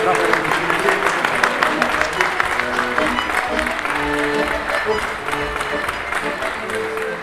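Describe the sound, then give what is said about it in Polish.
Steady audience applause fills the whole stretch, a dense wash of clapping at fairly loud level, with voices murmuring and calling out beneath it, as a ribbon is cut and released at a ceremony after a countdown. “Brawa, podziały.”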